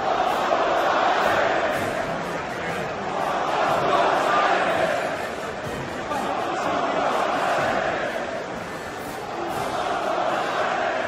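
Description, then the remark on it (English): A huge crowd at UFC 299, where Trump is met with roaring support, chants "Let's Go Brandon" in unison, a dense roar of many voices swelling and easing in a steady repeating rhythm, about every three seconds, with no single voice standing out. “To which Let's Go Brandon can be heard everywhere.”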